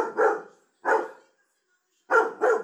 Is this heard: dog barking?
yes